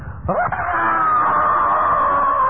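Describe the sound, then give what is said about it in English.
A single voice imitates a man screaming in terror, letting out one loud, sustained, high-pitched wail that starts abruptly and holds steady for about two seconds, alone. “These are grown men screaming because they think a Pontiana is coming on the way to catch them.”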